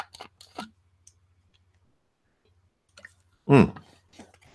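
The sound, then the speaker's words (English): Someone drinks water: faint wet mouth clicks, a long quiet pause, then a single louder gulp or swallow followed by a few soft smacks. “So let me get back and take a drink of water first.”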